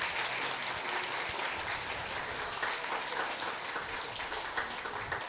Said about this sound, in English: So y'all give her a round of applause too.